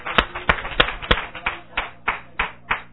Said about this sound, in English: Give God a hand clap. That's a praise up for Him.